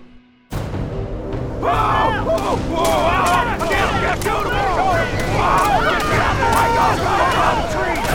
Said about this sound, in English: The fast, frantic sound of the gunfire told him the men were fighting for their lives.